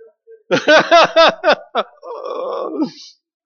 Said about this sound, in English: Number 11, the occasional well-rendered belch is practically expected. I just look over and just go, my compliments to the chef.